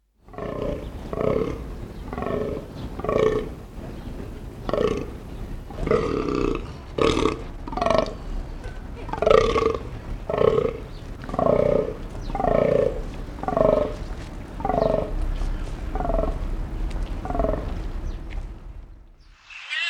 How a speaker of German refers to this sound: Die meiste Zeit des Jahres leben sie in nach Geschlechtern getrennten Verbänden und kommen nur im Herbst zusammen, wenn die Platzhirsche die Kühe mit ihren Brunftröhren anlocken.